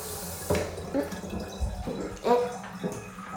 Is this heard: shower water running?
yes